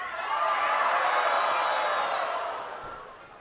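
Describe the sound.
A crowd of voices strains and groans together in a sustained, loud chorus, imitating an elephant struggling with all its might to pull a chariot, swelling then fading over a few seconds.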